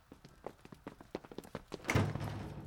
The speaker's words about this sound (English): Make sure you close the door behind you.